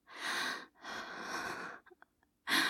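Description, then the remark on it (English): Heavy, ragged, unsteady breathing: a short breath, a longer drawn-out one, a few small mouth clicks, then another breath starting. No one speaks. “I can hear your breathing getting all ragged and unsteady, like mine.”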